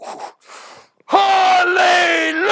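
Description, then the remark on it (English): A man lets out a loud, sustained scream of "Hallelujah!", rising sharply after a couple of brief breathy noises and holding strong for over a second before cutting off. He is shouting from a vehicle driving down US 19 to make distant construction workers look. “I would just scream it.”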